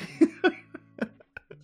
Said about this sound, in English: Some pussy cough, mate.